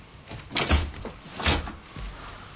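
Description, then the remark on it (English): A door is pushed shut, making two dull thumps about a second apart with some rattling in between, then a quieter knock at the end. No one speaks. “Stay in here. Come back. Shut the door.”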